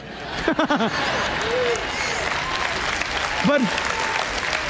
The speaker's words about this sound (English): But wait a minute. You guys just clapped and said amen. Do you realize how divisive you are?